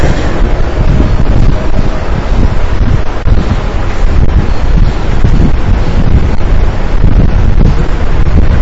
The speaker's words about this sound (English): Serious rain.